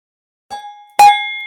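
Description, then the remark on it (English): A cowbell is struck twice, a softer knock followed by a loud, bright clank whose metallic ring hangs on and slowly fades. “That's a cowbell.”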